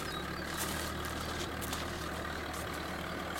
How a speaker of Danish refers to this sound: På gården bruger de også traktorer. Det er nogle store, lavende maskiner. Man kan næsten høre dem helt herop, når de kører rundt ned på markerne.